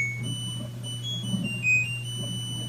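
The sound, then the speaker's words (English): A harsh, high-pitched electronic appliance alarm tone sounds steadily, with one brief louder beep partway through, all over a constant low mechanical hum and no talking. “Obviously, we've come a long way from those harsh beeps and buzzes.”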